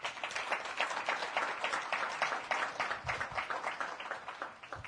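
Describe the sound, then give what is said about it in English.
A crowd breaks into sustained applause for Judge Satterfield after his story, many hands clapping densely and evenly, then gradually thinning and softening toward the end. “If I may, I'd like to just give another round of applause to Judge Satterfield for that remarkable story.”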